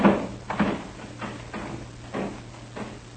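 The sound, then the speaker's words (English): A back door being worked open: a series of muffled clunks and scrapes at uneven intervals over a low steady hum, with no one speaking. “All right, Van Redlin, open that back door.”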